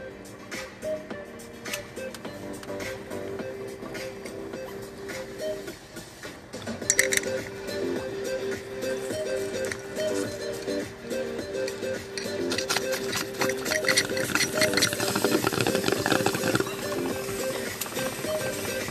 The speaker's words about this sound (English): Give them a flick. Cheers. Get the bong. Get the lighters going.